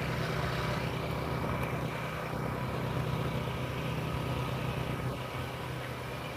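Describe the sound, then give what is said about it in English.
A steady mechanical drone of a chemical tree treatment truck engine running across the street, a continuous low rumble with a hissing, whirring layer on top, unbroken, with no voices. “That horrible racket is the chemical tree treatment truck across the street.”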